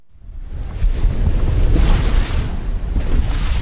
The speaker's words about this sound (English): Half a mile off the coast of the Galician village of Lira, huge Atlantic waves pound a rocky shoal.